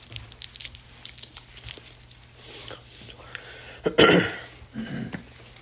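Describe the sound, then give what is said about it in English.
Crackly crinkling of a small cough drop wrapper being worked open, a string of brittle rustles with one louder tearing burst toward the end, faint murmuring underneath. “You have a cough drop.”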